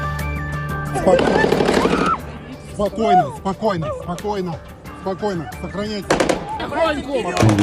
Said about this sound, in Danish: Så kunne jeg tydeligt høre skud. Det var ikke fyrværkeri, det var skud, fortalte en gæst, der var i Krokus City Concert Hall fredag aften,